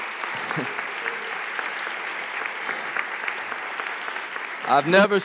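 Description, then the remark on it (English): A large audience claps steadily and loudly for several seconds in a big round of applause for a man who finished building a deck for the community, a dense sustained wash of applause, with a voice starting to speak over it just at the end. “And if everyone could just give him a great big round of applause.”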